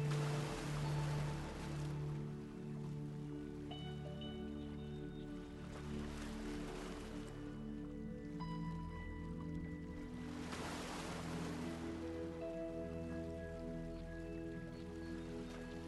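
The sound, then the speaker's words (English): Gentle ocean waves wash onto the shore and draw back in three soft, spaced swells, with a steady, quiet musical drone running underneath and no one talking. “Just gently keep breathing in and out with the tide, where you can feel the water just come up and just touch your toes, and then it fades away again, back out into the ocean.”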